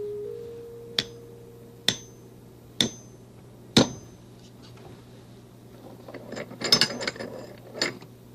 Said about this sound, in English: And I'll make a bigger square with these. Come along and we'll do it together. Hammer and nails.